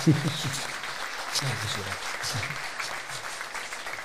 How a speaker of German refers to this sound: Großen Applaus und schön, dass du da bist